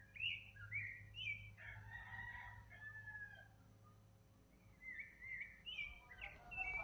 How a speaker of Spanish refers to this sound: Vamos a escuchar. Canto de ave en el volcán.